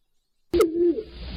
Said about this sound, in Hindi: जी कबूतर। जी ये थे कबूतर, और कबूतरों की आवाज भी गैस कर ली गई है।